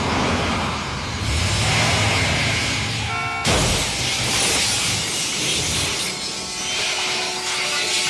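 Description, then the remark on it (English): Engine and road noise roar steadily as a car races through the streets of Mexico City, chased by a pickup truck, then a sudden loud car crash hits midway, followed by a bright wash of shattering glass and hissing debris with a faint sustained tone underneath. “The car crash is the central event of Amores Perros.”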